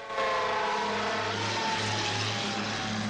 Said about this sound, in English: A fire engine speeds along a wide road, passing Carrie